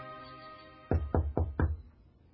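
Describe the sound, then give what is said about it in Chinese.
Four firm knocks on the wooden front door of an inn, by someone seeking a room, in quick, even succession and fairly loud, following a brief quiet moment with faint background hum. “若瑟耐着性子，他再一次的去试着敲前面的这家旅馆大门。”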